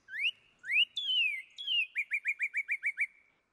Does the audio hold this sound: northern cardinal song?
yes